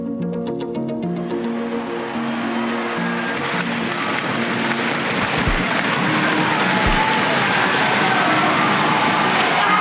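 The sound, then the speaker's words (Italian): A large stadium crowd claps and cheers at a high jump by Gianmarco Tamberi, in a dense, steady roar of applause that swells after a brief tonal opening and stays loud throughout. “Nel giro di 20 secondi c'è il pubblico che batte le mani, c'è un salto, c'è un lamento, c'è il silenzio dello stadio e c'è il grido di chi ha capito che cosa è successo.”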